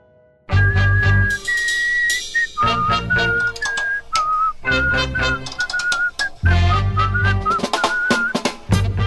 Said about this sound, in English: Here, whistle it with me.